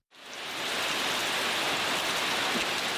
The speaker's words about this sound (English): Rain soaks what is left of the EYN Church in Michiga. The last service here in September 2014 ended in gunfire when Boko Haram insurgents stormed the town. Within days, they reduced the church to rubble.